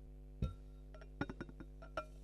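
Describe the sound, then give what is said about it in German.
A drink is poured from a can into glasses during a tasting, heard as a series of short, bright clinks and taps of glass at an uneven rhythm over a steady low hum. “Diesmal schenke ich sogar mal ein, aber nur wegen der Dose.”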